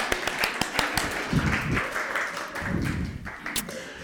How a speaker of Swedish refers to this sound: En applåd.